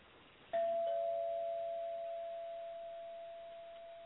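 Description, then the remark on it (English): A doorbell rings once, a single clear chime that strikes suddenly and then hangs as a steady, mid-pitched tone, fading slowly over several seconds. No one speaks. “Is someone at the back door? Or is that the front door?”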